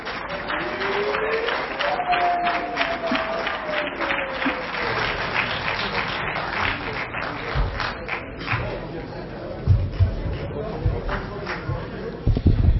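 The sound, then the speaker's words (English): A crowd in a parliamentary chamber applauds as the Honourable Fortune Charumbira is invited to show gratitude to the House. The clapping is dense and steady and lasts over twelve seconds, with a few murmuring voices and some dull thumps near the end. “Shall we receive him with a hand of applause?”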